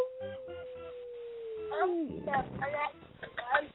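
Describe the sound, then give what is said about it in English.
Cats meow, with a long drawn-out cry that slides down in pitch followed by several shorter, wavering meows, while a person talks in the background. “I hear the kitties.”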